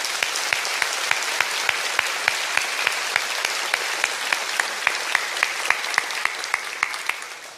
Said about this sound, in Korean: 우리 서로를 위해서 큰 격려의 박수 부탁드립니다.